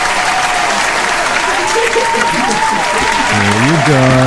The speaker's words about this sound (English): Ladies and gentlemen, they were either applauding themselves or one another as well, which is pretty impressive.